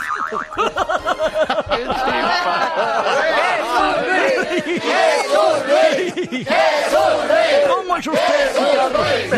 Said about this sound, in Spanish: Gracias por estos aplausos y estos jaleos que tanto me estimulan.